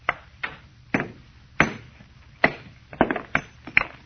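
A hammer strikes a stone again and again to break it along a fissure, about ten sharp, ringing knocks in an uneven rhythm, each impact loud and brief with a short metallic ping; the stone, an almost solid metal meteor, splits clean in half. No one speaks.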